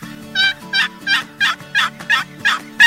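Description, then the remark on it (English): A steady run of about eight basic hen turkey yelps played on a box call, each note breaking high to low, evenly spaced, fairly loud, with no talking. “Basic hen yelp, high-low.”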